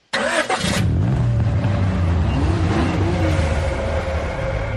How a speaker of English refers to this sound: That's a car, I guess.